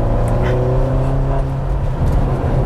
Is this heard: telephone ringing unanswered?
no